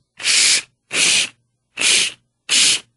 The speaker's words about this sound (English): Cardboard being cut with scissors.